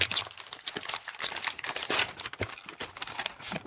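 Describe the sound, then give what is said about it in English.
Someone opens a vacuum-packed birthday present holding a pair of duck-themed socks, with a continuous rustle of crinkling, crackling plastic and a few sharper tearing snaps over a few seconds, with no voices. “Oh, it's a vacuum-packed, what looks like a pair of socks, but much more excitingly than that, they are duck-themed socks.”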